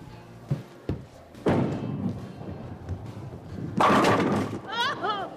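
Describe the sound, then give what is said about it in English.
A bowling ball thuds down and rumbles along the lane, then a loud clattering crash as it knocks down all the pins, followed by a brief excited vocal exclamation. “I knocked them all down.”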